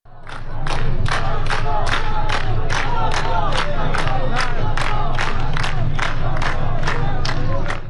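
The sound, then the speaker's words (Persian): A large protest crowd in Behbahan, Iran, at night chants slogans in unison, such as "Reza Shah, may your soul rejoice" and "Neither Gaza nor Lebanon, my life for Iran", loud and rhythmic, with sharp regular beats over a dense roar of voices. “رضا شاه روحت شاد یکی دیگر از شعارهایی بود که شب گذشته در فیلم های مربوط به بهبهان شنیده شد.”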